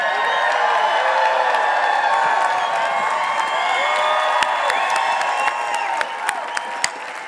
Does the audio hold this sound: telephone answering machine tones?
no